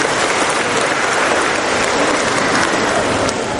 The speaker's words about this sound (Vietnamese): Một tràng pháo tay thưa anh chị em.